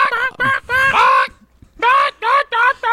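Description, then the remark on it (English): People vocally imitate a chicken with a run of loud, nasal clucking bursts: a short burst, a pause, then several more rhythmic squawks. “You guys just chickened at me.”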